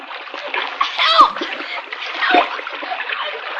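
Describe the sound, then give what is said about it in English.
Vigorous splashing water as someone dives into a raging, flood-swollen river to save a boy thrown into it, churning steadily for a few seconds, with irregular louder surges and no clear speech. “Bobby is thrown into the raging river, and Cisco dives in to save him.”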